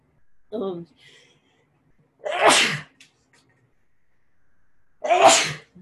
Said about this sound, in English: Bless you. Thank you. That's three. That should be it for now.